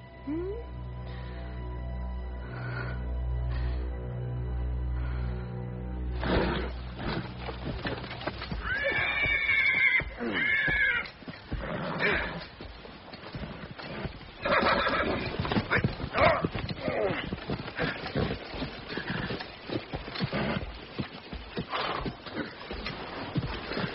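A horse whinnies loudly with a rising, wavering cry, followed by a steady stream of hooves clip-clopping, over a low rumbling hum in the first few seconds.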